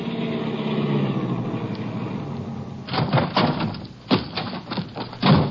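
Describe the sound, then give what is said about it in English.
A car engine hums steadily as the vehicle drives up to a ranch, then gives way to crunching, scraping bursts as it pulls up and comes to a stop. “We drove over to Alva Briggs' ranch.”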